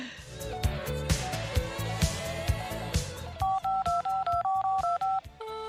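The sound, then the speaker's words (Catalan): A short stretch of rhythmic music gives way to a quick run of about nine crisp telephone dialing beeps as a call is placed to Ferreries, evenly spaced and fairly loud, each a steady two-note electronic tone. “Bona, han telefonat a les Ferreries.”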